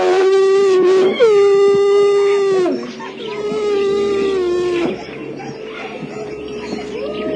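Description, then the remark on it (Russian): A northern wolf named Lars howls in long, sustained, wavering notes that hold steady before sliding down, with a second softer howl following. Fairly loud, with no talking. “Есть у нас северный волк, причем это совершенно прекрасное существо, наш Ларс.”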